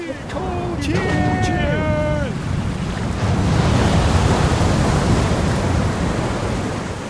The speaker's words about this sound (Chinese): 一定是船上有人得罪了他的神，他的神才用这风暴来阻挡我们。我们要快点来抽签，看看到底是谁的神带来这大风浪。